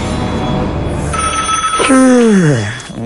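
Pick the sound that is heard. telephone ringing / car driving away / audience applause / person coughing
telephone ringing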